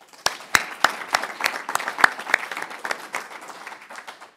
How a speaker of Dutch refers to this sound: Hartelijk dank daarvoor. Applaus.